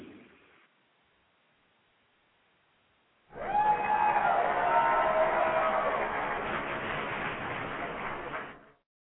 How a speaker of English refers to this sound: And from right where you are, just clap for them and say thank you, okay? Even if you have not called in, I see you in the chat room, wherever you are, join in as I give a standing ovation to them.